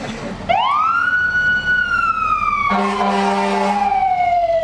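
A loud emergency-vehicle siren wails, rising quickly and then slowly falling in pitch, with a brief blaring horn blast partway through; no one speaks.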